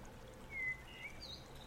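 running water

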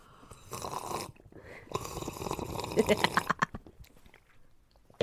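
sipping water

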